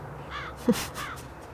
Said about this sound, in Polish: O, wrona przyszła, zobacz. Słucham? Wrona przyszła.